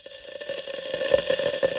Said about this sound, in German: Ungefähr so hört es sich in dem Warmwasserspeicher von Gunnar Hinrichsen manchmal an. Immer dann, wenn seine Photovoltaikanlage mehr Strom produziert, als die Familie gerade braucht. Wie in einem Wasserkocher.